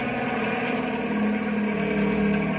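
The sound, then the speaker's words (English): A helicopter, coming back with its spotlight on, gives a steady, droning engine hum with layered harmonic tones that holds at a constant loud level and swells slightly toward the end as it approaches. No voices are heard. “Hey, here comes the helicopter again.”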